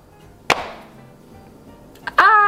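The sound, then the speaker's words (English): A confetti popper goes off for a birthday with one sharp, loud bang that fades quickly into a soft, trailing hiss. A brief quiet follows, then a voice lets out a loud exclamation. “confetti. Explosion.”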